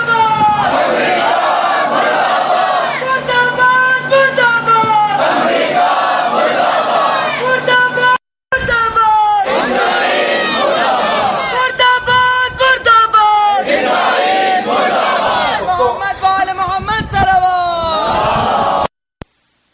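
crowd chanting a slogan

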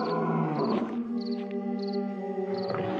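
wolves growling

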